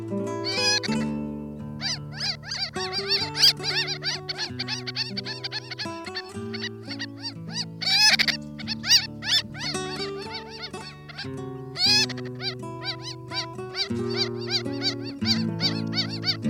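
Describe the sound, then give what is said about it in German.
Ross's gull calls: a dense series of high, nasal, yelping notes repeated rapidly, loud, with a steady low droning tone running underneath throughout. “Das war die Rosenmöwe.”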